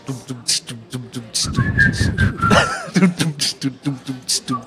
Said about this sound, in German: Wir haben ja immer so einen Track unten drunter. Wir können dran pfeifen. Ich mach den Beat und ihr pfeift.